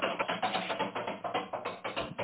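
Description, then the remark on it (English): A rapid, steady run of knocks on a door, about ten sharp raps in two seconds, moderately loud, with no voices over them. “there's someone at the door. Come in.”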